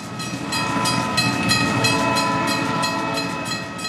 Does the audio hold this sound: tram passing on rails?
yes